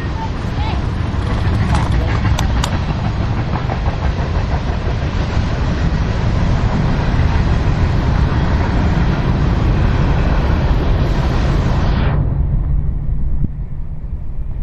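train passing by

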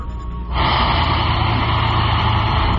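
truck engine running

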